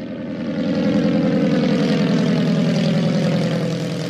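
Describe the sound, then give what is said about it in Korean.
A propeller airplane engine roars steadily and loudly, a dense continuous drone with a slight rise in intensity at the start, strong throughout with no voices, as the plane flown by Wills, with Coleman aboard, climbs into the sky on an air show day, April 30, 1926. “윌스가 조종하는 비행기는 하늘로 치솟았습니다.”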